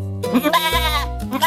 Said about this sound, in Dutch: Ik denk een schaap. Het is een lammetje.